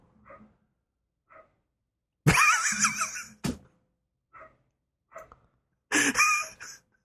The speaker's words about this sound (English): Sorry, I hear your dog in the background.